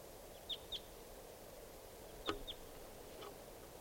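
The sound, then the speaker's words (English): A flock of four wild birds flying around gives a handful of short, high chirping calls, scattered irregularly over a steady background hiss, with one slightly louder call in the middle; no one speaks. “It's a flock of four.”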